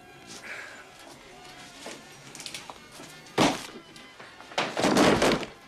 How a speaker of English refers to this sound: In the end, Carmen does it for him. She hits the guard on the head with the butt of his gun.